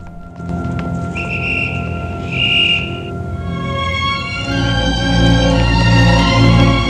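whistle blowing

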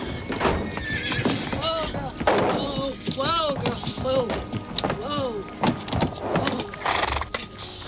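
horse neighing and hooves

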